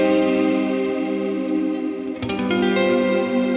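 Dreamy, sustained electric guitar chords washed in massive reverb and chorus, ringing steadily with a brief strum accent midway, loud with no voices.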